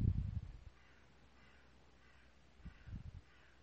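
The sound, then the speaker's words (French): Faint seabird calls cry out in a loose repeating series, harsh and caw-like, with a soft low rumble swelling at the start and again near the end. “Entendre les oiseaux marins.”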